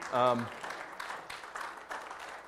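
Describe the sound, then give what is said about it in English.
A voice is heard briefly, then an audience breaks into steady applause celebrating a family's adoption news, a dense wash of many hands clapping at moderate volume that carries on to the end. “And yeah, you can clap for that, that's good.”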